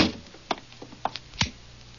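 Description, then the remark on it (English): A few quiet clicks and knocks of handling, followed by a soft, low thud as the door of McVeigh's house swings shut, then quiet. “Well, close the door.”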